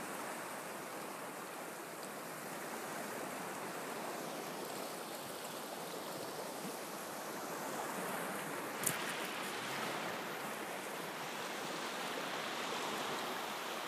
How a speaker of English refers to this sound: And I invite you all to gaze into the ocean. And however the ocean is for you is perfect. And just stare at the ocean.